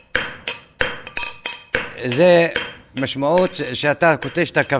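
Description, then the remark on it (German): Freshly roasted coffee beans are pounded in a mortar by a fire, a series of sharp metallic strikes in a quick, uneven rhythm, followed by a voice singing or chanting with scattered clinks. “Dann zerstößt er die duftenden Bohnen in einem Mörser. Der Rhythmus ist ein Zeichen.”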